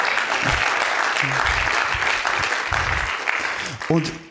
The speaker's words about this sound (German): Und ja, du darfst einen Applaus geben, doch, das ist ein guter Moment.